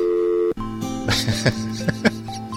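A steady telephone dial tone hums for half a second, then cuts off abruptly, giving way to a continuing tone mixed with short beeps and clicking bursts.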